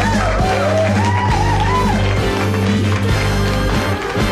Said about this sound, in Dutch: Ja, ja, met applaus. Ach, heerlijk altijd weer om zo te beginnen op deze woensdagmiddag, dames en heren.